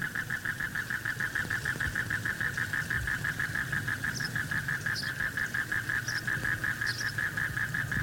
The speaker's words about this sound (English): Inland, in the world's oldest jungles, bullfrogs croak a welcome at the dawn.